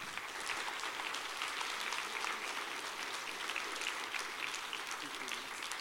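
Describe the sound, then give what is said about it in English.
A church audience applauds its actors steadily, a dense wash of many hands clapping at once, holding at an even, fairly loud level for several seconds without fading. “Can we give a big round of applause to our actors?”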